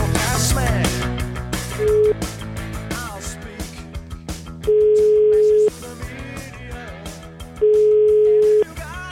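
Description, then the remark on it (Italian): A phone line's ringback tone sounds three times while calling a man back, each a steady one-second beep with pauses between, laid over busy background music with no one speaking. “Allora, abbiamo provato a richiamarlo, sentite.”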